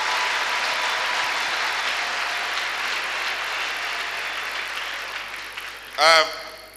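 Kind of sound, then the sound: crowd, audience applauding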